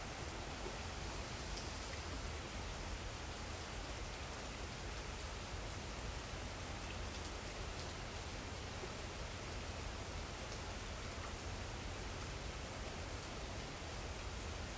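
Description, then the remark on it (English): Steady rain falls continuously, a dense, even hiss of drops on a surface with no pauses or other sounds, fairly soft and constant throughout. “So when we go within, we can notice the rain, right, within our ears, the sound.”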